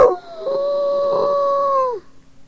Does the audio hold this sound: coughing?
no